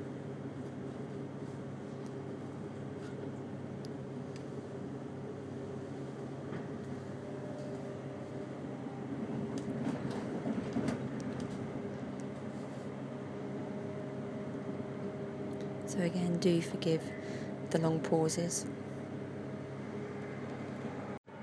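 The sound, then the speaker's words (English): Steady low rumble and hum inside a moving train, with clatters and high brake-like squeals bursting in toward the end as it slows to stop at a station. A man speaks briefly over it. “And here we are, as you can hear, the train is now slowing. We're just about to stop at a station.”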